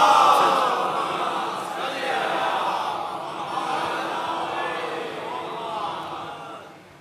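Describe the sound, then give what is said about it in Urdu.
An audience recites salawat ("Muhammad wa Aal-e-Muhammad") together in unison, loud and sustained for several seconds, with the collective chant swelling slightly before tapering off at the end. “اس سے اونچی اگر اس کی آواز کر سکتے ہیں”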